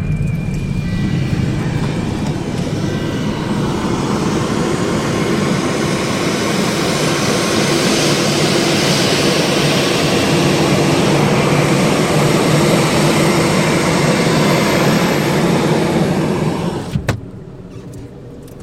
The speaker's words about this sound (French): C'est l'avion. L'avion est prioritaire.